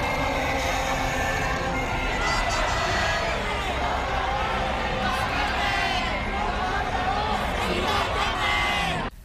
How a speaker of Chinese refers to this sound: 有參與的市民揮舞港英殖民時代的香港旗幟，展示反送中運動的標語和高呼香港獨立的口號。